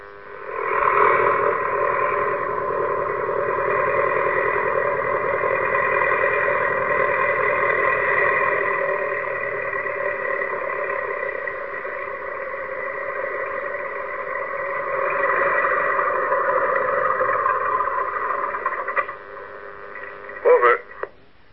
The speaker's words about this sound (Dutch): was dat voor geluid? Oh, natuurlijk, de motor. De motor van het vliegtuig.